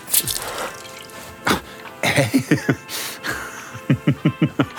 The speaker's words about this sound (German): Du tauchst deine Hand in das Schaumwasser in der Spüle und spritzt mich voll.